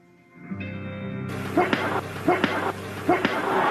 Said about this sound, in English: We can hear that leather popping. See what I mean? This kid can bang.